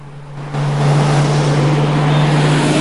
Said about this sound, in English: The pillars of the bridge flash past, but soon the bus joins the busy highway, where it drives steadily along in the inside lane.